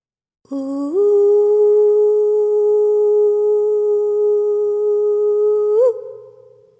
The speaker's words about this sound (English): Tekiya, the long, clear, steady sound of a shofar, the first in the series of blasts, calls us to stand together, assemble as a whole and holy community. The end of the note lifts slightly